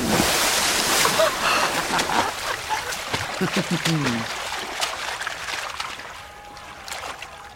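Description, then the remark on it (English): Someone splashes around in pond water, with steady sloshing and dripping throughout and a short vocal sound partway through, the splashing easing off toward the end. “Just lush green grass, a blazing sun, ducklings quacking, splashing water.”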